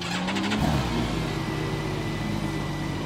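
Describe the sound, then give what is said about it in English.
The 6-cylinder BMW motorcycle engine of a Campagna Motors T-Rex three-wheeled car, started with a push button while in neutral, cranks with a quick burst of sputtering pulses, catches, and settles into a loud, steady rev, humming evenly with no one talking. “The only thing left to do is push the little engine start button.”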